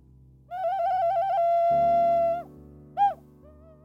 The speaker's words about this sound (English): have an ocarina pause, which is where Acast digitally insert an advert and I play a clay whistle so you don't get any surprises.